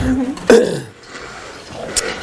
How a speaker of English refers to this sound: There's two reasons why I blow my nose so much. One is to get ready for meditation.